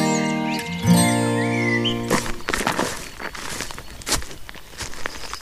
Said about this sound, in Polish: Pogoda ostatnio kapryśna, ale jednak idziemy po miękkiej ściółce. Ściółka robi się wiosenna, tak. Piękny zwiastun wiosny.